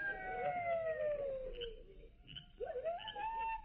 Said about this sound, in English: I don't hear nothing except them coyotes howling. Do you?